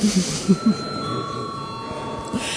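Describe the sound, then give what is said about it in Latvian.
The Saeima (parliament) session bell rings continuously for an extraordinary sitting, a steady, unbroken electric tone over faint murmur and a few soft bumps. “Marta saimas ārkārtas plūdzu zvanu.”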